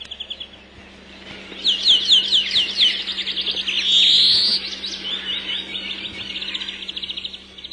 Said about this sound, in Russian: Мы слушаем зеленушку и скворца. Они выводят те же трели, как и в то далекое время.